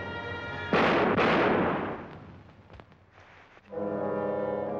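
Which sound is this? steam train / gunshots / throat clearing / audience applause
gunshots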